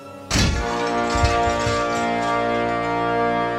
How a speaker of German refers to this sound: Es krachte und Glas splitterte, als Christelle durch das Fenster in mein Zimmer sprang